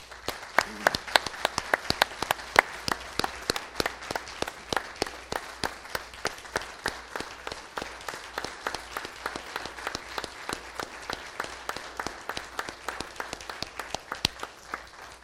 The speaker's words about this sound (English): And I actually like to, I'll introduce them here in a second, but if we can give them a round of applause, because they're the ones that earned that.